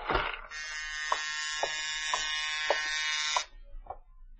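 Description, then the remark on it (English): An apartment doorbell rings in the evening in one long, steady, harsh buzzing drone lasting about three seconds, with soft regular taps sounding underneath and just after it. No one speaks. “Early that evening, you're sitting at your desk examining the diamonds when the doorbell rings.”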